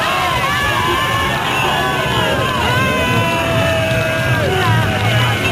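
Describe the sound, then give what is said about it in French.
A large crowd in Paris sings and shouts in celebration of victory, marching from the Place de la République to the Opéra, a dense, continuous wall of voices with cheers and yells rising over it, loud and sustained throughout. “Et vous entendez tout le monde chanter des chansons, pousser des cris en l'honneur de la victoire.”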